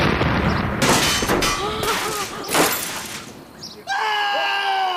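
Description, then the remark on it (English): A handheld cannon, its fuse lit and fired braced above the hip by a very large man, goes off with a loud, booming blast, then a second heavy report follows amid a rumbling clatter, and a high, sustained cry rises at the end. “With theatrical aplomb, the enormous man lit the fuse of the gun where it stood propped against the wall, picked it up as though it were as light as a carbine, and braced himself with one foot forward and the cannon cradled above the hip.”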